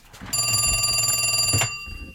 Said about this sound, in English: Oh no, my cell phone is ringing.